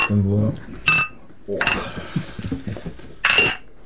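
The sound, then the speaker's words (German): Beer glasses clink together in a toast with guests: three bright, ringing knocks spaced about a second apart, fairly loud, with low voices murmuring in between. “Und wie es bei uns Ritual ist, trinken wir jetzt erstmal ein Bierchen mit euch, denn das gehört zwingend dazu, wenn man Rockmusik macht.”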